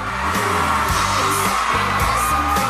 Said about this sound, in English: A very loud applause.